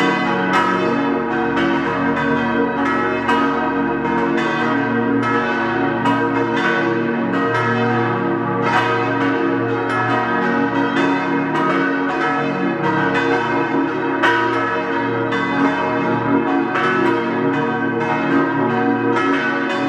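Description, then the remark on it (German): Several bells of the deanery parish church of St. Vitus in Zell am Ziller, Tyrol, peal together at noon in a full, continuous ringing, strikes overlapping in a steady rhythm with rich resonant overtones, loud and sustained throughout with no voices. “Sie hören die Glocken der Dekanatspfarrkirche zum heiligen Vitus in Zell am Ziller in Tirol.”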